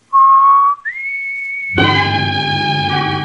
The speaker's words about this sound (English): whistles the warning signal to Roy and Jonah.